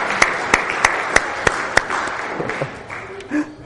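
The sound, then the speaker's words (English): An audience gives performers another round of applause, starting with six sharp, evenly spaced claps over a wash of crowd clapping that then thins out, with a brief voice near the end. “I think, yeah, let's give them another round of applause, everyone.”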